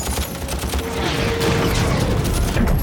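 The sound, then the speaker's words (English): Rapid bursts of automatic gunfire from a rear-facing machine gun at the open ramp of a helicopter rattle over a dense, rumbling roar of battle noise, loud and continuous for the whole stretch. “Rodriguez dives for the rear-facing machine gun by the open ramp”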